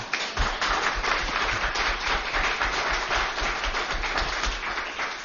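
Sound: audience applauding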